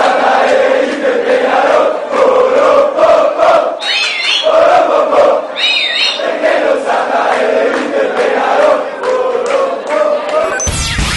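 A large crowd of football fans, Grêmio supporters backing Nacional, chants in unison at the Beira-Rio during Nacional's 2006 match against Inter, a loud, steady roar of massed voices with rhythmic surges, punctuated by a couple of piercing whistle-like squeals.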